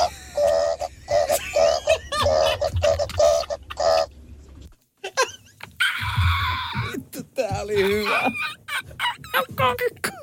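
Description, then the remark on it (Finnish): A person vocally imitates a rooster: a run of rapid, pulsing clucks, a brief pause, then a strained, high-pitched crow that rises and wavers before breaking off into a few trailing squawks. “Matkia kukkoa. Kukko kiekuu!”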